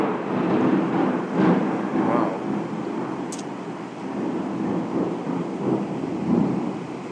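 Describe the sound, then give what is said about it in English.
A steady wash of heavy rain with deep, rolling thunder rumbling continuously through it, broad and enveloping, with a few brighter crackles standing out briefly: a violent African thunderstorm after days of immense heat. “This is a typical African thunderstorm.”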